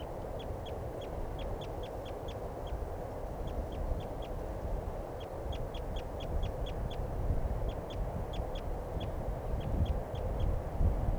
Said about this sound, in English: And the male, I think, is the one that's calling there. But I'm not sure. Both birds calling now.